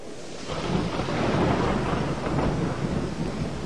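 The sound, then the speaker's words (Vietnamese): Rolling thunder rumbles loudly and steadily over a dense, hissing downpour of heavy rain, the roar swelling slightly after the first half-second and holding for several seconds with no voices. “Mười rồng quy y giáng mưa rào.”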